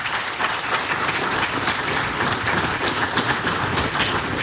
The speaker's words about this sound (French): Je crois qu'ils méritent les applaudissements.